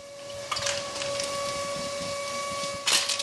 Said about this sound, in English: At Edwards Meats in Wheat Ridge, Colorado, near Denver, grinders churn out a steady stream of ground beef.